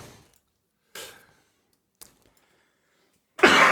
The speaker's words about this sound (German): Ich kriege hier gerade so einen Husten.